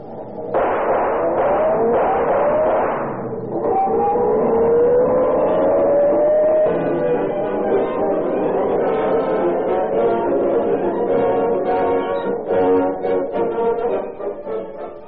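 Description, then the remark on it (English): The engines of several cars start up and rev together, their droning pitch climbing steadily as they accelerate. The rumble is loud, dense and continuous, with a few sharp knocks near the end and no talking. “Get those motors started.”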